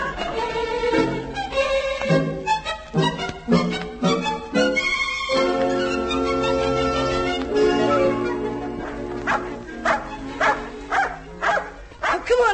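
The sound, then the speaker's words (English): A dog barks in a series of sharp bursts, pausing briefly before another run of quick barks near the end, with people's voices mixed in underneath. “It'll be the first time in history anyone's paid more for the entrance fee than the value of the dog.”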